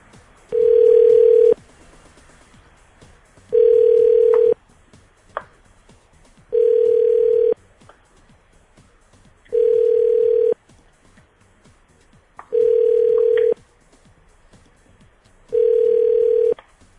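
A telephone ringback tone sounds six times as a call is dialed again, each steady, clear, mid-pitched tone lasting about a second and separated by roughly two-second pauses, with faint background noise between the rings.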